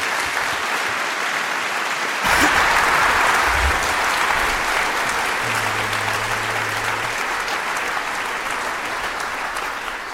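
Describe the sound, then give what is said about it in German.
An audience bursts into sustained applause for three presenters of a talk on how geographic information systems help coordinate relief operations, a dense wash of clapping from many hands that swells quickly and holds steady for several seconds before tapering slightly, with no talking over it. “Einen großen Applaus an die drei und viel Spaß.”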